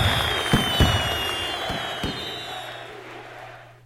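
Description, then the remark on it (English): Fireworks pop and crackle in a scattered series of sharp bursts over a steady hissing wash, with a faint crowd murmur underneath, gradually fading toward the end, from a computer game's exit scene. “So you get a crowd and some fireworks.”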